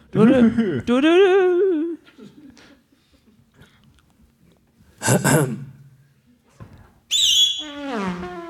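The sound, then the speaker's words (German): A voice imitates a traffic radio news jingle, the kind played at the start of traffic reports: a few loud, sliding, tuneful vocal bursts and a sharp whooshing hiss, separated by quiet pauses. “Ich würde Ihnen jetzt, vielleicht bekommen wir einen kleinen Jingle für die für Verkehrsfunk. Der kommt am Anfang immer so...”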